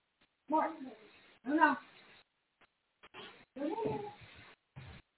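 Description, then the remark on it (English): A cat meows loudly and insistently several times in a row, with drawn-out wavering cries separated by short pauses. “Talking about Jesus going to hell and the cats gets crazy.”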